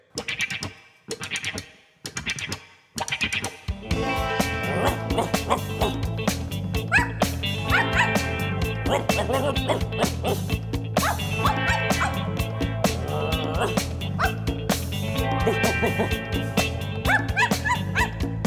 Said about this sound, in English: Act like a dog. And go woof, woof.